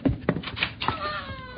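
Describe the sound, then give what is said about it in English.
A newborn baby cries in short, thin, wavering wails, with a few soft bumps around the cries. “The new child is born.”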